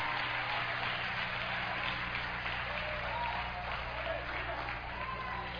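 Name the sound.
audience clapping hands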